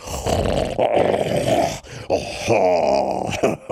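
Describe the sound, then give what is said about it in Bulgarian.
A white tiger roars loudly in two long, rumbling bursts, the second following a brief pause, deep and growling throughout with no other sounds around it. “Събудило се от грамотевичен тигърски рев.”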